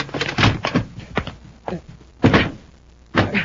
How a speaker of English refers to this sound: Shut the door. Try to keep it out.